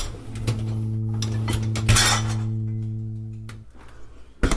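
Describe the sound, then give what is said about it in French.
Dishes clink and clatter in several sharp, irregular knocks over a steady low electrical hum that cuts out near the end before a final clunk. “Le vaisselle.”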